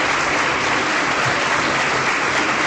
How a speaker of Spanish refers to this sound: Podemos dar un aplauso porque aquí están los alumnos de segundo de bachillerato para que Extremadura se escuche.